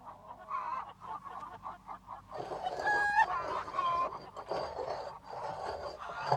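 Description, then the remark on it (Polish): A bird squawks repeatedly in a farmyard, harsh clucking and honking calls coming loud, growing busier and more insistent halfway through, with other fowl chattering around it. “Ej ty, ptaszku! Zostaw to żarno”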